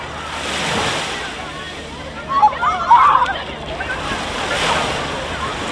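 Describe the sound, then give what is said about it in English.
Ocean waves wash onto Shelley Beach, a surf break near Manly on Sydney's northern beaches, Australia, in a steady, breathy roar that swells and recedes in slow surges, with a brief faint chirping sound rising over the surf partway through. “Shelley Beach is a popular surf break known for its clean waves.”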